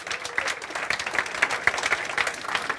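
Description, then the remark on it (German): A crowd claps steadily for the second-placed team at a prize-giving, a dense patter of many hands applauding at a moderate level with no one speaking. “Großen Runde Applaus.”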